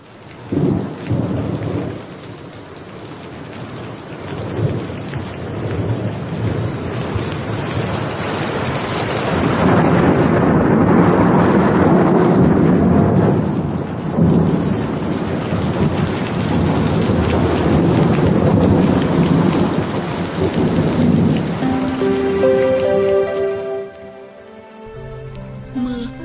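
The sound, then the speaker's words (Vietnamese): Heavy rain pounds steadily on a tin roof over a corridor leading down to a kitchen, loud and unbroken, with deep thunder rolling through the downpour. Near the end, a few soft musical tones sound over the rain. “Những hạt mưa gõ vào mái tôn tạo ra một âm thanh khác hẳn khi chúng rơi trên mái ngói.”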